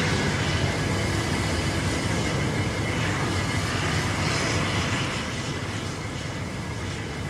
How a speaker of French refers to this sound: Ciel ouvert. Devant nous, les larges pistes sur des kilomètres et les avions qui glissent, ventrus ou effilés, presque silencieux parfois, si le vent tourbillonne et emporte leur son.